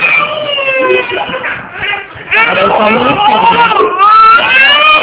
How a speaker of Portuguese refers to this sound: Amiga, eu vou desligar e vou ligar de novo, porque senão ele tá chorando aqui, vai sair na gravação, que vai dar ruim.